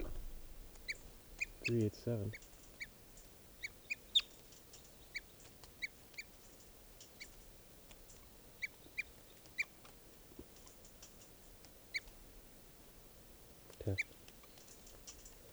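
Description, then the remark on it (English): Sharp, high-pitched bird alarm calls ring out again and again at irregular intervals, raised at a nearby sharp-shinned or Cooper's hawk, over a quiet background broken by a couple of brief low rustling thumps. “That hawk is still here, and these are the alarm bells.”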